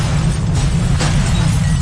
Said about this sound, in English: Buildings are shaken from their foundations. Unstable areas of the cliffs surrounding Valparaiso collapse, taking many buildings with them.